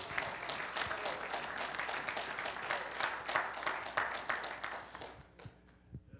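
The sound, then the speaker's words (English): A church audience gives the Lord a hand clap of praise after a prayer, many hands clapping in a dense, steady burst that holds for about five seconds, then thins out and fades to a few scattered claps. “Would you give the Lord a hand clap of praise again?”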